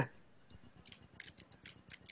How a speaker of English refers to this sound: I'm typing.